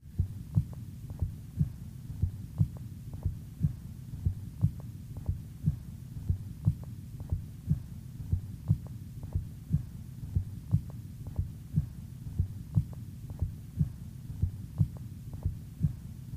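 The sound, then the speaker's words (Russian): A steady heartbeat recorded through a stethoscope at the apex of the heart of a patient with an extensive myocardial infarction, with a muffled, weakened first heart sound in each pair of beats over a low hum, repeating evenly with no talking. “Прослушайте ослабление первого тона на верхушке сердца у больного с обширным инфарктом миокарда.”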